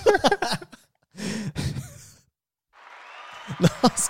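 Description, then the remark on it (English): A short burst of applause-like clapping noise rises and holds steadily for a second or so, with voices talking before it and over its end. “I think you needed the crickets. Or the applause. I like that one.”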